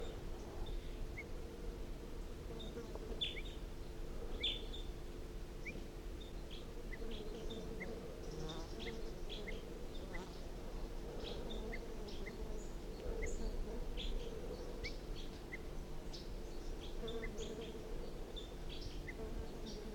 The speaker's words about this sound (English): So recording again, wild bird, alarm calls.